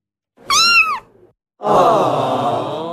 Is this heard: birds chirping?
no